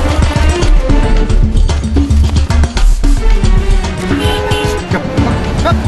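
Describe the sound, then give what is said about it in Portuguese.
Car engines rumble steadily with dense, busy mechanical noise and rhythmic clatter throughout, as trainers' cars drive alongside racing camels at speed. “Os treinadores acompanham ao lado. De dentro dos carros, gritam instruções para os camelos, ampliadas por um alto-falante instalado no robô.”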